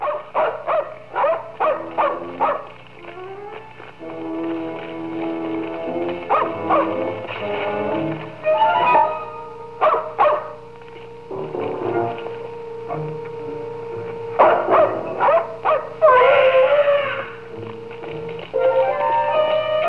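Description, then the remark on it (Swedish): A dog barks and yips in repeated short bursts from inside a doghouse by a cabin in the dark, loud, with some whining tones between them and no voices. “Det rör sig. Det är någon i hundkojan.”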